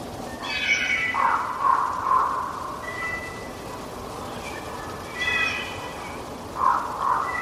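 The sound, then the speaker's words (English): Two packs of wolves converging on each other make soft, breathy whimpering calls, whisper howling right before they begin to howl. High wavering tones overlap in short rising phrases. The chorus stays quiet and restrained, with no full howl and no talking. “That's two packs of wolves converging on each other. I call it whisper howling.”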